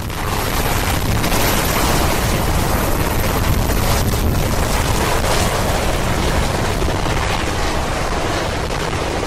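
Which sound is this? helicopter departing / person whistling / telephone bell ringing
helicopter departing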